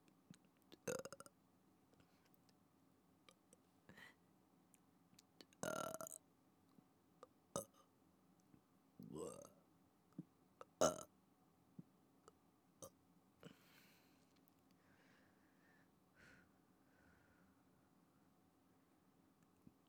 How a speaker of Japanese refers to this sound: 最後に普通にゲップしたいと思います。